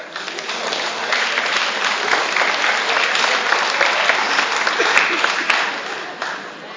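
A large audience at a home for the elderly applauds steadily to welcome a performing singer, a dense wash of many hands clapping at once that holds strong for several seconds before easing off slightly at the end.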